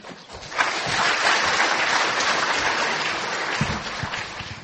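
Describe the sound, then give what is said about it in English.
An audience in a sanctuary applauds the incoming session chair steadily, a dense wash of many hands clapping at once that stays loud and even for several seconds before thinning slightly near the end. “You don't have to clap for me.”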